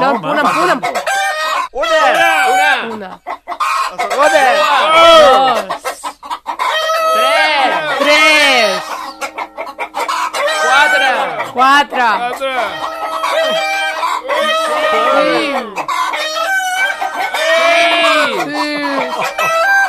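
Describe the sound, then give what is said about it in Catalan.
A crowded flock of hens clucks nonstop for twenty seconds, dozens of overlapping squawks and cackles forming a loud, busy barnyard chorus with no pauses. “Tiro ja les gallines?”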